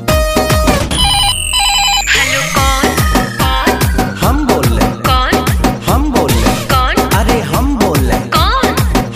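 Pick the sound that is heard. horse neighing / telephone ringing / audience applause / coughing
telephone ringing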